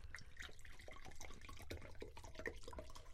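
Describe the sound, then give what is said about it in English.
Water is poured for someone in a steady splashing stream, a continuous bubbling gurgle with small irregular splashes throughout, fairly loud and with no voices over it. “Dude, pour me some water.”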